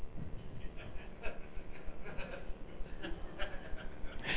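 Goats and lambs bleat several times in quick, overlapping calls, set against a dense, rumbling background noise, with the bleats moderately loud and somewhat muffled.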